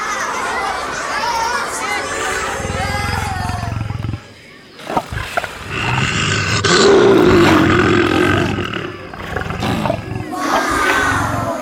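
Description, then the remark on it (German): A lion roars loudly several times in deep, rumbling bursts while children and a crowd murmur and chatter in the background. “Zuerst gehen wir zu den Löwen.”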